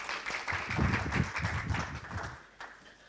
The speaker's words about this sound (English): guys, bit of a round of applause again